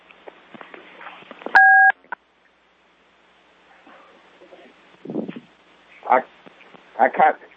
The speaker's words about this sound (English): Right now I count 11 of us here. Is that true? Do those tones indicate individuals are joining the call?